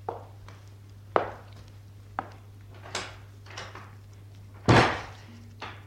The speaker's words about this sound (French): Je vais entrebâiller la porte. Il y a juste assez de place pour moi.